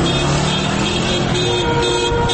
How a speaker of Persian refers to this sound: در تهران حالا هوا رو به تاریکی رفته و معترضان کم کم به خانه هایشان برمیگردند. خبر کشته شدن دو نفر دهان به دهان پیچیده و معترضان عصبانی هستند. دستشان را روی بوق ماشین هایشان گذاشتند و همزمان فریاد میکشند.